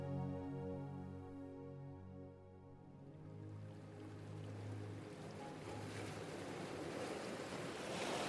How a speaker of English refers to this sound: An albatross bobs along on the gentle waves that lap against the shore of eastern Aotearoa, also known as New Zealand.